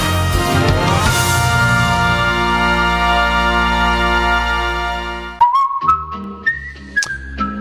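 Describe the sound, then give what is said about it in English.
On a WGN Radio morning broadcast, a loud, sustained musical chord cuts off, and a short whistled tune follows: a few clear notes stepping upward, bright, with no talking. “And that little whistle can only mean one thing.”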